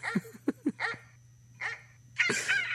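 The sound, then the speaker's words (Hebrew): A dog-barking effect played from a sound-effects app: quick short yips, three or four in a row, then a pause and a couple more louder, harsher barks, over a faint steady hum. “והדבר היחיד שהשדים פוחדים ממנו זה מבט של כלב”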